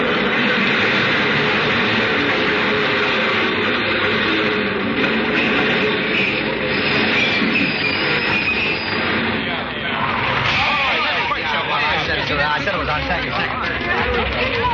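A subway train rumbles and roars loudly and steadily as it arrives through a tunnel, its metallic clatter filling the space, with the murmur and chatter of a 5 o'clock crowd mixed underneath.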